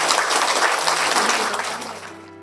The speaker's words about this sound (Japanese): もう一度拍手をお願いいたします。今日はどうもありがとうございました。